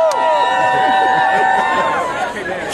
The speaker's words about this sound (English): So let's hear supporters cheering outside the Supreme Court after the ruling on same-sex marriage.